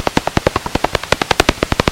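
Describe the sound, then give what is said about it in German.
Bat echolocation calls, ultrasonic and above the range of human hearing, made audible: a fast, steady train of about ten sharp clicking pulses per second, dry and percussive rather than whistling, with no talking. “Ich hätte jetzt gedacht, dass eine Fledermaus, wenn man das hört, wie sie die Ortungslaut ausstößt, dass das pfeift.”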